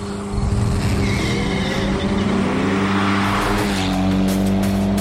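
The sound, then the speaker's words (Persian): An Alfa Romeo 4C sports car engine roars loudly and steadily, its deep growl climbing in pitch as it revs hard, with a brief tire squeal mixed in and no one talking. “حالا این کوچولوی ایتالیایی غریب دوباره قرش کنان به استوریای ماشین هفته اومده تا بیشتر بهش بپردازیم”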